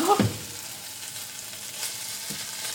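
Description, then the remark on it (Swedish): Bacon and onion, nearly done, sizzle steadily in a frying pan, a dense crackling hiss with a brief clatter at the start and occasional louder pops. “När alla förrymda bitar har städats bort börjar baconet och löken i stekpannan att kännas klart.”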